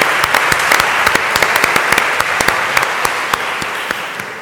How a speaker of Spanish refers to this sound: yo quería que le diéramos un aplauso muy grande de bienvenida